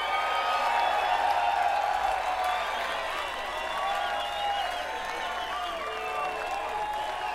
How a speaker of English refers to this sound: I'd like to take this opportunity to ask you to give a big hand, a big round of applause to these three guys down here playing all the fast notes for you tonight.